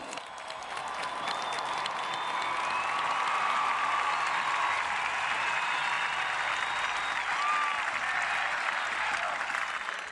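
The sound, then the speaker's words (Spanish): Sustained applause from a large audience in Brazil, sent as a greeting to Benedict XVI, a dense, steady roar of clapping that stays loud throughout the ten seconds, with scattered cheers and a whistle rising above it. “A él se lo agradecemos de todo corazón, y a él, que nos convocó hoy aquí, le enviamos un saludo y un fuerte aplauso.”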